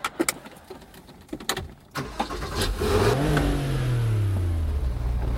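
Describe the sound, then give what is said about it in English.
A few sharp clicks and knocks, then a Porsche sports car with a stick shift fires up and revs hard on a drive around L.A., its pitch climbing in a loud surge before easing into a steady, falling growl. “Probably not a lot of middle-aged divorced guys driving around L.A. in a Porsche.”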